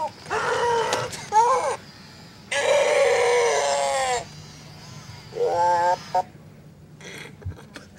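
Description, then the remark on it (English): A Pleo robot dinosaur toy, held by its tail and hit, cries and screams in several loud, bleating bursts, with one long drawn-out wail in the middle, then quieter faint whimpers at the end. “Held it by its tail and hit it. And it was crying and then it started screaming”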